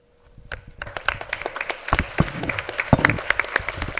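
A round of applause for the presenters after a presentation session starts with a few scattered claps, then builds into dense, steady clapping from many hands that keeps going at a fairly even level to the end.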